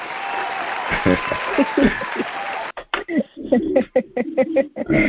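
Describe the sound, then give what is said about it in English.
An audience claps and cheers in a dense, continuous burst for a couple of seconds to welcome a guest, then the applause breaks off and a single voice starts talking over quieter background. “Now, come on, give it up. I want all my crowd.”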